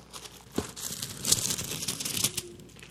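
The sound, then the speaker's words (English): Many thin Bible pages being turned at once by an audience, a dense, overlapping rustle and crinkle of paper, with a few sharper flicks standing out and no talking. “I love hearing the words of Scripture being turned.”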